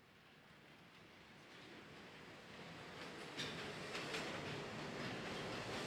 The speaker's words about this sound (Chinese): 两个身穿大红新娘礼服、头戴凤冠的人坐在地铁车厢里，身体随着车辆行驶轻微摇晃